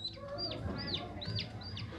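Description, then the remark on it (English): High, repeated chick peeps, about five sharp rising-and-falling chirps in two seconds, over a busy low bed of farm-fowl noise that could include ducks, coming from a foosball table in an exhibit recreating a 1990s sitcom set. No one speaks. “Even the chick and duck noises coming from Chandler and Joey's foosball table.”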